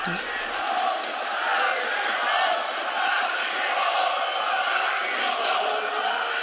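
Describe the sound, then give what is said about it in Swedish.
Opposing supporters at a German third-division football match applaud player Kwadwo and chant "Nazis raus" against racism from a Preußen Münster supporter, a dense, steady roar of many voices and clapping that holds at an even, loud level for the whole stretch. “Det är de då som skanderar på läktarna Nazis raus, ut med nazisterna.”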